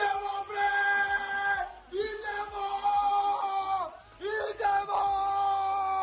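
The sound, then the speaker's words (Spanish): Tennis player Novak Djokovic yells loudly and exuberantly in three long, sustained bursts with brief breaks between them, his voice strained, opening a window so Serbia's World Cup goal and triumph can be heard. “que gritaba y abría la ventana para que se escuchase el triunfo del equipo serbio”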